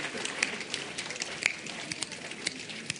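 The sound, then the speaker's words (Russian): Sparse, irregular soft taps and clicks imitate the last raindrops of a shower, scattered unevenly across a few seconds and fairly faint, with no voices. “Последние капли.”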